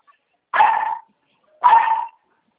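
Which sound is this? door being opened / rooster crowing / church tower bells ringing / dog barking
dog barking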